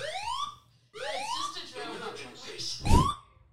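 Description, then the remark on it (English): A building fire alarm blares during a fire drill in repeated rising whoop tones, each sweep climbing in pitch, fairly loud, with a harsh, insistent electronic quality that keeps cycling. “So we were just in the middle of our get ready with me for the Collade launch and the fire alarm has gone off”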